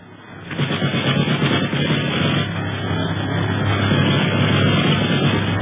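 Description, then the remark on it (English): A loud, steady airplane engine roar starts abruptly and holds throughout, with rapid machine-gun fire rattling through it as another plane opens fire with a machine gun in the air. The whole scene sounds dense and muffled, with no talking. “the boys prepare for trouble, and not a moment too soon, for the other plane opens fire with a machine gun.”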